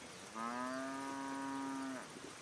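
A single drawn-out moo from a white cow with big black spots on a sunny hilltop, steady and tonal for about a second and a half before trailing off, against a quiet outdoor background.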